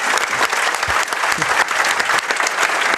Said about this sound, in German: Applaus Nummer 2. Ja. Verdient.